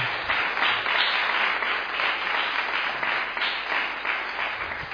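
Sustained applause from an audience welcoming a special guest fills the whole stretch, a dense, steady wash of many hands clapping with no pauses, fairly loud throughout.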